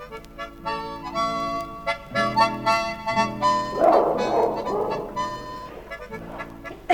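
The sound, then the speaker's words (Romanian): A dog yelps and barks repeatedly in short, sharp bursts, fairly loud, with a brief flurry of higher whimpering cries in the middle, as someone torments it. “Jody, nu mai chinui câinele ăla!”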